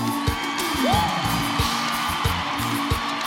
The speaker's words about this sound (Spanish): ¡Dar un fuerte aplauso!